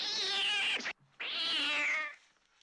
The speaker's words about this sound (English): I have these cats that live next door, and they come to say hi, and one just jumped in front of my window.